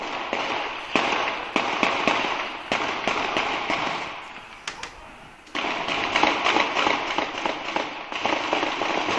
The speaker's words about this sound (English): For those who heard that, the volley of gunshots in the dead of night 1 week ago, it will be hard to forget. It has been a week since the manhunt for the Boston Marathon bombing suspects led to the shootout on the streets of Watertown.